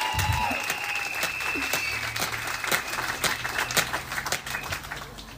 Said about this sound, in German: Ja, Applaus.